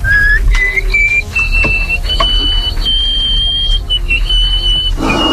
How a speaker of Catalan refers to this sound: es va donar als 7 anys que podia xiular amb el nas.